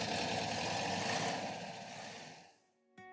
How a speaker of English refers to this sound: he cranked the sputtering engine and drove away in a cloud of blue smoke.